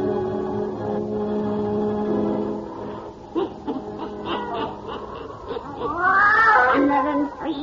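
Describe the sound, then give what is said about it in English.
A black cat named Satan meows loudly, ending in a long, wavering yowl that rises and falls in pitch, with no talking. “Weird, blood-chilling tales told by old Nancy, the witch of Salem, and Satan, her wise black cat.”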